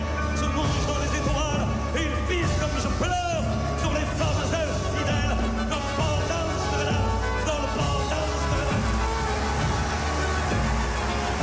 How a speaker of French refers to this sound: À la fin de son concert, les 2000 spectateurs debout hurlent « Ne nous quitte pas ».